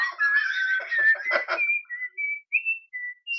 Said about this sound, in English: You hear birds chirping.